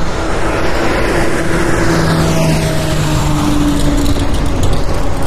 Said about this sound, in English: And that traffic you're hearing on my right is, and yes, I'm actually wearing the microphones on my correct ears.